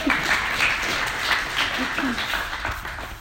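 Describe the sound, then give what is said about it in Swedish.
A crowd applauds in a steady, dense wash of clapping that lasts about three seconds at an even volume, with faint voices murmuring underneath. “Ja, den är ju nästan värd en applåd.”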